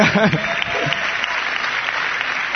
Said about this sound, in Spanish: que quiero agradecer a mis amigos de Algorta que han venido, es la primera vez que me ven, y a toda mi familia, así que un aplauso para ellos también.